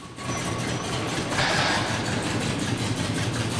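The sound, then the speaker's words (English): The car Christine's engine runs steadily, a low rumbling drone that swells slightly partway through as the car is driven in through a corrugated metal door, past shelves of spare parts, and gingerly turned around in front of an office. No one speaks. “He passes shelves full of spare parts, then gingerly turns the car around in front of an office where a man stands watching.”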